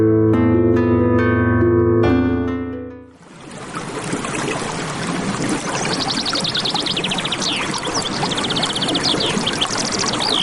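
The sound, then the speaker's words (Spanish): A brief musical passage fades away, giving way to the steady rush of the flowing Río Verde, a river in the state of Oaxaca, with birds chirping faintly above the continuous watery roar. “Conozcamos más de él a través de sus sonidos y de la gente que ahí habita.”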